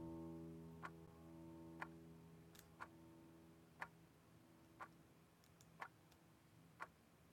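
A clock ticks steadily, roughly once per second, each tick a crisp click over a low, sustained droning hum.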